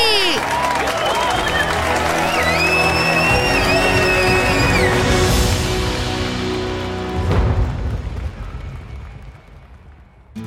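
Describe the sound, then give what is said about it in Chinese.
A loud burst of applause and cheering with shrill whistles rising over the clapping, celebrating a team that won the Namei knowledge-king quiz contest and a grand prize, sustained for about seven seconds before the crowd noise tails off and fades. “再次恭喜我们故事小苗探险队成功挑战娜美号知识王争霸赛，成为新一年的娜美号知识王，并获得大奖，掌声鼓励！”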